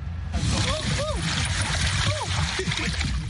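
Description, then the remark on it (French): A dugout canoe carved from a tree trunk, able to hold 14 people, glides along the Ivindo River in Gabon with seven aboard on a week-long patrol. A steady wash of moving water and a low rumble, while faint voices or short calls rise briefly in the background. “La rivière Ivindo au Gabon. Ce canoë sculpté dans un tronc d'arbre peut accueillir 14 personnes.”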